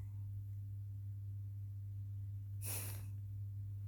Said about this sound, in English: Your breathing is starting to sound kind of heavy.